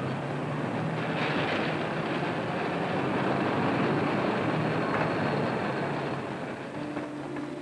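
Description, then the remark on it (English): A cable car grinds steadily as it crawls up a steep hill and then levels off. It is a loud, continuous mechanical rumble with low humming tones underneath, easing slightly and shifting pitch toward the end. No voices. “Later, the cable car crawls up a steep hill, then levels off.”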